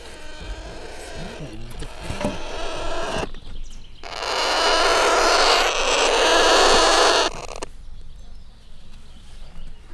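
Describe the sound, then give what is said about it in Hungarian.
Alexandrine parakeet chicks, about one month old, give nasal, bleating defensive calls, then break into a loud, sustained harsh hissing screech for a few seconds before falling back to quieter squawks. “Igen, nagy Sándor papagáj fiókák, egy hónaposak körülbelül.”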